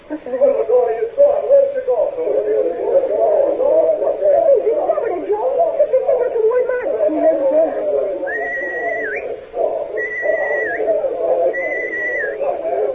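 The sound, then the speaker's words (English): Three steady, high-pitched whistle signals, each about a second long with a slight upward lift at the end, sound in a regular sequence over a continuous murmur of voices. “Yes, Marty McDonald heard those whistle signals”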